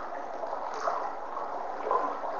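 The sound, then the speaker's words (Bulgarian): Water flows steadily, a continuous soft rushing and babbling at moderate loudness, with gentle swells here and there and no voices over it. “И остави звука на тази вода да донесе отговорът, който потъва някъде заедно с изчезващото тяло”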